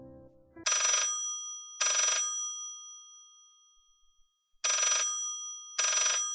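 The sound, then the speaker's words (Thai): An old-fashioned telephone with an antique look but stylish design, standing on a table near a balcony, rings in two pairs of bright, metallic bursts separated by a pause, loud, with a brief low rustle just before the first ring. “แต่กลับมีเสียงโทรศัพท์มาขัดจังหวะ”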